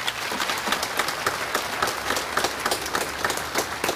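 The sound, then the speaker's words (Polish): A crowd of pilgrims applauds steadily for Bishop Jacek of Wrocław, many hands clapping in a dense, continuous patter with small bursts of louder claps, moderately loud throughout with no voices. “Brawa dla niego.”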